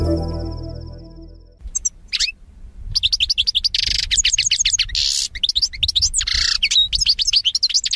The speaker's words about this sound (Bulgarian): Така звучи песента на кадънката, дребна пълна птичка, която някой наричат щиглец или кълдарина. Всъщност песента, която чухте, е на онази кадънка, която е излюпена в дивата природа.